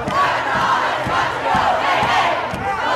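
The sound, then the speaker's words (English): A large protest crowd shouts and chants together in a steady, dense roar, many voices blending into a continuous loud wall of sound with periodic rhythmic pulses throughout. “They are not an angry mob.”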